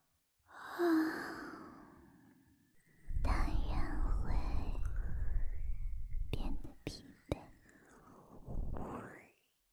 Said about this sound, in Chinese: 这种心理暗示本身就像是一种催眠，听到我的哈欠声就会变得困倦，而且少爷本来就已经被我催眠了